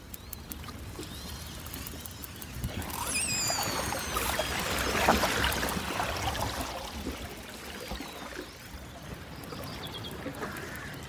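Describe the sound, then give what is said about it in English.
Orcas calling underwater in the Ross Sea, Antarctica: a few high, sliding squeals and whistles rise out of a constant hiss and wash of sea noise, with no voices. “The sound of orcas in the Ross Sea in Antarctica, as recorded by the wonderful Chris Watson”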